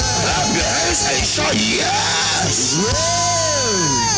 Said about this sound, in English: As we are clapping and giving God a shout, it shall be revoked. It shall be reversed.